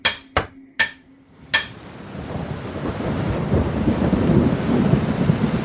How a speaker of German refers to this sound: Als nun ein Platzregen fiel und die Wasser kamen und der Platzregen fiel herab und die Ströme kamen und die Winde wehten und stießen an das Haus.